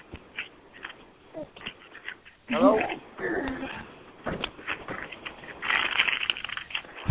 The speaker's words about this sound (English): Yeah, I can't do that background noise, man. Who's rattling paper? You haven't eaten potato chips again?